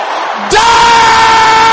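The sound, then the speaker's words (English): A large crowd of men in a church audience bursts into a loud, sustained collective shout, many people yelling together at full volume in a continuous roar that holds steady to the end. “Is that the loudest the brothers can shout it?”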